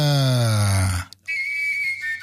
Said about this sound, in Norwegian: Jeg satt og lekte litt i skogen i går, og så spikket jeg meg selv i fløyte da, så spilte jeg inn dette.